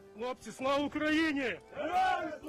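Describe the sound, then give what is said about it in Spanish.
A group of Ukrainian soldiers shouts a loud, drawn-out victory cry, "Glory to Ukraine", in a few strained syllables, rising in pitch, as they raise the blue and yellow flag on buildings in liberated areas during the counteroffensive, with no other sounds around it. “Esto es lo que gritan los soldados ucranianos al poner su bandera azul y amarilla en los edificios de las zonas liberadas.”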